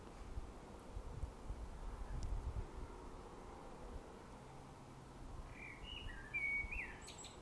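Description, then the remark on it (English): A blackbird sings a few short, fluting phrases toward the end, after a couple of days of rain, over a steady low outdoor rumble of wind and ambient noise. “Given the amount of rain we've had in the last couple of days and the wind, I don't think the blackbird's gone particularly hungry.”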